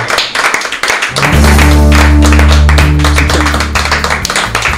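A crowd applauds loudly and steadily, dense clapping filling the whole stretch, with a deep sustained musical tone swelling in underneath after the first second.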